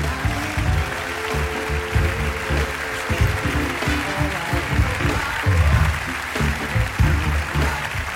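audience applause

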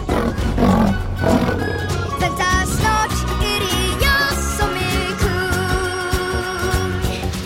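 lion roaring

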